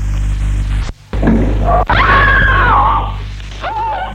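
woman screaming loudly

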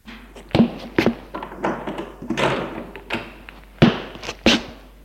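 door being opened

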